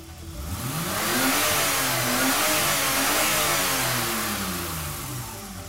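A car engine revs loudly and steadily, its rising and falling whine sweeping up and down in pitch for several seconds, with no voices.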